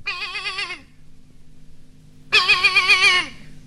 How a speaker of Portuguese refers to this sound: E o coelhinho, muito aflito, chamou o cabrito. E o cabrito foi chegando e foi berrando.